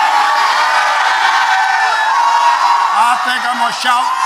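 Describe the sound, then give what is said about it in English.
A large crowd shouts and cheers loudly and continuously, a dense roar of many voices with scattered whoops rising above it, sustained throughout without a break. “I'm going to shout. Some of y'all not shouting.”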